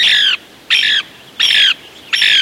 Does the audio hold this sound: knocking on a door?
no